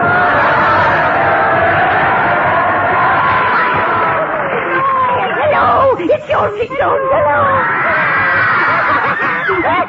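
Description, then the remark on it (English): A loud crowd of many voices screams in horror without pause as the Ugly Sisters arrive, high overlapping shrieks and wails filling the whole stretch, dense, with scattered laughter-like yelps mixed in. “Those are screams of horror.”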